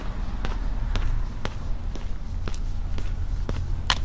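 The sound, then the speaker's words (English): Steady walking footsteps of someone walking home carrying a hot box of takeaway chicken wings, about eight sharp taps at an even half-second pace, over a constant low rumbling background with no talking. “which warmed my hands walking home.”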